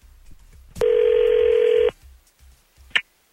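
A single steady electronic ringing tone from an outgoing phone call placed live on air on the radio station 102.9 The Wolf, lasting about a second at a fixed mid pitch, followed by quiet and a brief sharp click. No one speaks.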